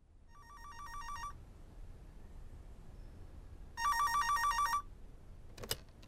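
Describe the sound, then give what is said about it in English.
A telephone rings twice for a long-distance call, in a warbling electronic trill, each burst about a second long with a pause between, followed by a brief click as if the receiver is picked up. “A long distance phone call.”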